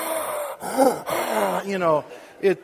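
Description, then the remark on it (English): A voice mimics heavy breathing through a snorkel: a quick run of loud, rasping inhales and exhales, some with a hollow, groaning tone. “The only thing you're missing is like goggles and a snorkel, and you're breathing.”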